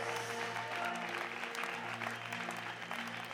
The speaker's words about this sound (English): Can we continue to clap and just honour